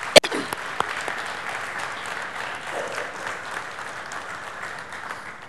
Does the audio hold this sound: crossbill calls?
no